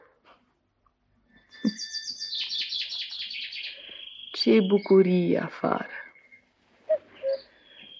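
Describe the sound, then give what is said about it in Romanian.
Birds chirp and chatter in quick, high trilling bursts outdoors, a busy run of calls that continues faintly while a voice speaks briefly, followed by a couple of short chirps. “Păsările au început cu limbuția lor.”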